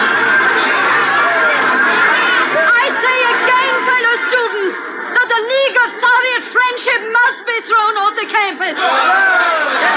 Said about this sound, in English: For three centuries, these cloistered halls have been a haven of quiet and dignity and peace. But now the silence is shattered. The old stone walls echo with the angry shouts of a student meeting.